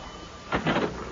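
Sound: door opening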